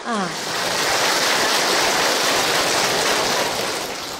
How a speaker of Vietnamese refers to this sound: Đó, bây giờ người khiếm thị ngồi im hết vậy nè, các sư thấy có thương không? Quá thương rồi, cho anh chàng pháo tay đi chứ.